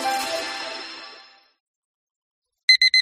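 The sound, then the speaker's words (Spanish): A bright tone rings out and fades away, then after a short silence an alarm clock gives three quick, loud electronic beeps in a steady rhythm. “Pasarse al Seat León híbrido con Seat Flex es tan fácil como posponer la alarma.”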